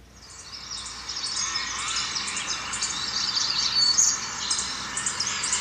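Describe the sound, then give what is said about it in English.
Forest ambience played by Siri from Ambient Sounds, filled with dense, overlapping birdsong: many high chirps and trills layered into a steady bright chorus, fairly loud throughout, with no voices. “Hey Siri, play forest sounds.”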